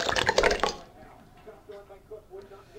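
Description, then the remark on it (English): A short, splashy pour of a shot of liquor into a small glass in a bar, loud and bubbly for under a second, then it stops and quiet murmuring voices follow. “Pour me a shot”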